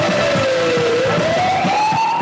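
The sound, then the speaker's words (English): An emergency vehicle siren wails in a slow, continuous sweep, dipping then rising in pitch, loud over a low rumbling engine and road noise, as the vehicle responds to a radio call about a domestic disturbance. “And you're thinking, oh, for God's sakes, you hit the siren.”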